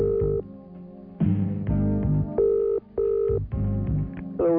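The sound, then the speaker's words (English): A telephone dials out for a radio station's cash-prize call to a listener, with a quick series of keypad tones, each held briefly at a different pitch, followed by ringing, all loud over a steady low hum with no voices. “In we go, making another 1,000 pound cash call like we do every hour of the day, every day of the week. Stand by your phone.”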